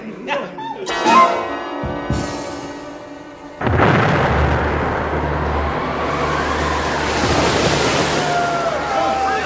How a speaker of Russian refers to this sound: Тихо, вот это громыхнуло. Голову даю на отсечение. Где-то поблизости ударила молния.